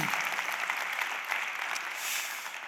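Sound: applause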